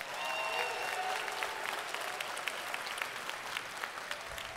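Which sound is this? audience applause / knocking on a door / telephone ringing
audience applause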